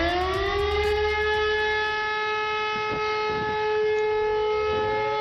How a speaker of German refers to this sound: Zweiter wichtiger Sirenenton ist der anhaltende Dauerton.